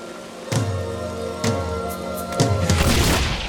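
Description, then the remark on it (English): Loud thunderclaps from a lightning strike during heavy rain: three sharp cracks about a second apart, each trailing into deep rumbling, then a heavier sustained crash at the end. No voices. “He almost gets struck by lightning.”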